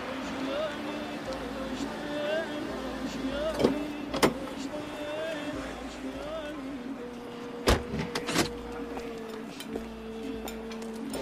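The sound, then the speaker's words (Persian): A car idles with a steady engine hum, then settles as it parks at night in front of the Mashbakh café-restaurant; sharp mechanical clicks and clunks, like a window motor and a door, punctuate the drone. “شب حامد ماشینش رو جلوی کافه رستوران مشبخ پارک میکنه.”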